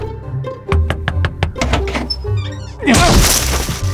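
The wide wooden double doors of a barn are yanked by a man against a lock, giving a quick series of hollow thunks and rattles, then a heavier scraping, clattering jolt.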